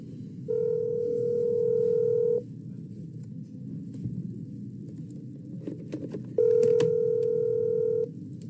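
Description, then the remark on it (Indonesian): A phone call connecting to a member of an association: two long, steady electronic ringback tones separated by a few seconds of quiet room noise, heard clearly through the line with no one speaking. “Gue teleponin dulu ini ya.”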